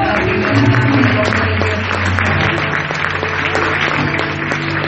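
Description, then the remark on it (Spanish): Sustained applause from an audience, a dense wash of clapping that stays loud and steady for about five seconds, with a low hum underneath and no talking. “Y ustedes que los pueden ver como pastores, ¿por qué no damos un fuerte aplauso?”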